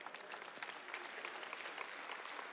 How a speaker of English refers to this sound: Wow, huh? Yeah, let's applaud for that.